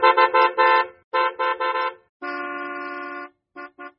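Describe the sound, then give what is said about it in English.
An old-fashioned motor car horn honks loudly: two bursts of three quick beeps, then one long sustained blast, ending with two short toots. No voices. “President Harding declared that America was in the age of what he called the motor car.”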